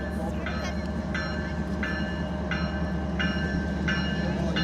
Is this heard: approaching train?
yes